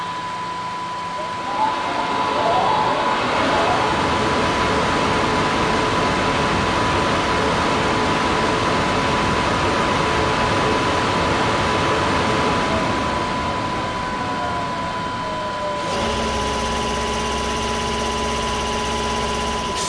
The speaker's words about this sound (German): Damen und Herren an Gleis 1, bitte steigen Sie ein. Ihr Zug fährt jetzt ab. Vorsicht an den Türen und bei der Abfahrt des Zuges.